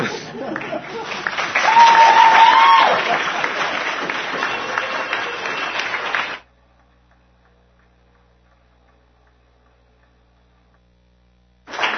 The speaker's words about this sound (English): And we just like, on behalf of the fellowship, to show our appreciation for them. So if you'd like to stand and clap, I'd be fine too.